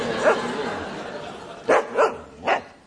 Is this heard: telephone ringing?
no